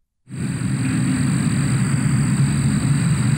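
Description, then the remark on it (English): A steady, high-pitched insect drone, like cicadas buzzing, starts abruptly and holds at an even level over a loud, constant low rumble. No one speaks. “You want to hear some cicada noises?”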